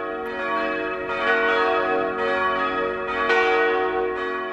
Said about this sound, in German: Hier handelt es sich um die Glocken der Kirche Abt Wil, St. Gallen. Und so klingt dieses Glockenspiel, nachdem die Glockengießerei Rüetschi diese Glocken saniert hat.